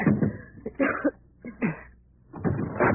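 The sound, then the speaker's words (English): A wooden door in a burning building being smashed open by people trying to escape: several heavy, muffled crashing blows in an uneven rhythm, with splintering bursts between short pauses and no voices. “Hold the flash on the door. Maybe we can smash our way out.”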